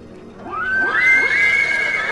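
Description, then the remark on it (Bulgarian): A horse neighs once, loud, its shrill whinny rising sharply and then holding a wavering, trembling pitch for a couple of seconds before trailing off. “Тия странни коне.”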